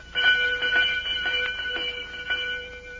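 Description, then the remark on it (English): A bell rings continuously for about three seconds, a steady metallic tone with a rapid rattling clatter, fairly loud, with no voices. “Sure I rings the bell.”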